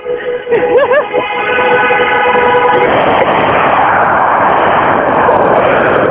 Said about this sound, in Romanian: Vrem să auzim un pic de claxoane de la Constanța, de la malul mării. L-auzi? Foarte frumos, foarte elegant. Așa. E aglomerat? Deci, este aglomerat, au oprit ceva mașini. Da, hai să ascultăm un pic... corul de claxoane.